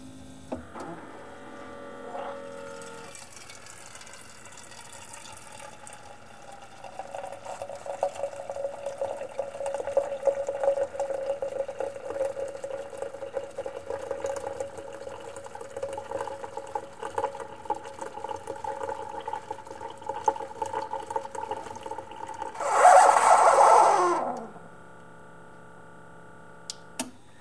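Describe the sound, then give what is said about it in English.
A single-serve coffee maker brews a straight 8-ounce cup after brew is pressed: a steady mechanical pump hum with trickling liquid building for about twenty seconds, ending in a short loud puff of air that clears air bubbles from the system before going quiet. “So I'm just going to make sure, check with my finger to make sure it's aligned, and press brew.”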